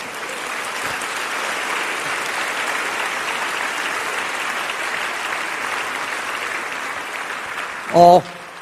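A church audience applauds to the Heavenly Father after a sermon, a dense, even wash of many hands clapping at moderate volume that holds throughout, ending with a brief louder burst near the close.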